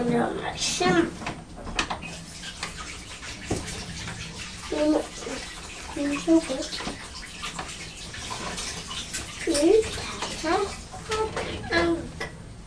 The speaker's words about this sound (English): Right, I'm just going to wash my hands again and then we'll have a walk.